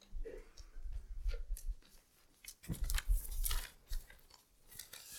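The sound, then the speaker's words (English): Sheets of paper rustle and crinkle in a run of irregular shuffling bursts with brief pauses, as someone leafs through a stack of papers looking for a particular place. “You notice that I collect paper.”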